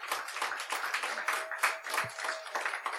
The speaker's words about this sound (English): I want everybody to give them a big hand clap for the beautiful job they did.